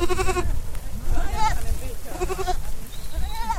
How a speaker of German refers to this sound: Schon nach kurzer Zeit erkundeten die etwa 50 Mutterziegen mit ihren 30 Lämmern ihr neues